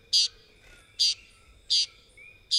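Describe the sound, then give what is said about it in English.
A Puerto Rican tody, a tiny green bird found only in Puerto Rico, gives short, buzzy, high-pitched calls, four evenly spaced bursts repeated about every three-quarters of a second, clear over a quiet background. “The Puerto Rican toady is a tiny green bird found only in Puerto Rico, where the species is called San Pedrito.”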